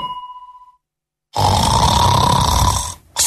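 person snoring

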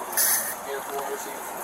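pepper spray being sprayed

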